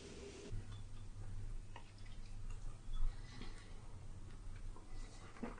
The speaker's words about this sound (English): The way the water runs sounds different when there's a body underneath it.